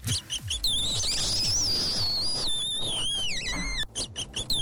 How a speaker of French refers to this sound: C'est un chevrotin mâlé. C'est pas plus gros qu'un lapin. On l'appelle aussi cerf-souris. Et c'est beaucoup trop mignon. C'est le nouveau petit pensionnaire qui a rejoint le zoo de Servion il y a quelques semaines. Il pèse 2 kilos.